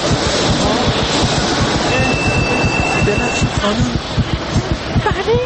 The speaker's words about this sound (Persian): ای وایسا، قطار اومد، قطار اومد. من دیگه برم، چون الان در بسته میشه، من میمونم.